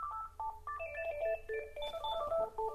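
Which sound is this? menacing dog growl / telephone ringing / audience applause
telephone ringing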